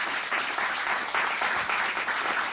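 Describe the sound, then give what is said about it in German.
A crowd claps steadily to welcome speaker Herr Kirner, a dense, sustained patter of many hands at an even loudness throughout, with no voices standing out. “Ihr Applaus, Herr Kirner.”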